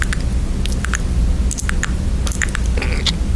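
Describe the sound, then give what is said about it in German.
Wet mouth smacking and squelching made by a woman, a rapid irregular series of sticky clicks and slurps over a low, steady rumble, with no talking. “Aber die macht so schöne Mundgeräusche.”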